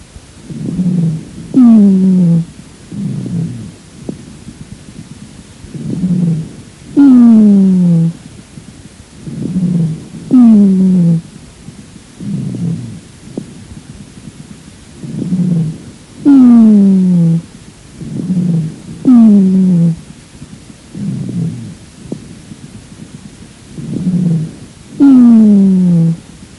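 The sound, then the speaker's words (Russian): Dry, low-pitched rhonchi recorded from a female patient with chronic bronchitis: harsh breaths repeat every couple of seconds, each carrying a loud, droning, groan-like rumble with a musical, slightly sliding tone. No voices. “Прослушайте запись сухих басовых хрипов, сделанную у другой больной хроническим бронхитом.”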